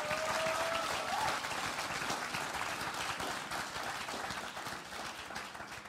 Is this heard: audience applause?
yes